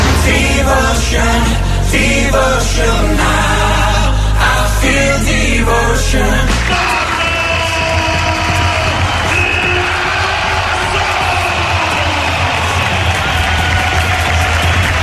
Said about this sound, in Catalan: Amb aquesta ovació ha tornat Pablo Laso avui al Withing Center de Madrid, ara com a entrenador del Bayern de Múnich.